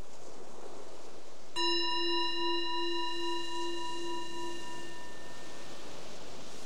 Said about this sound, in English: The bell is our invitation to transition, let it go of the previous doing, planning, living in the past and future, and noticing how is it right now, right here?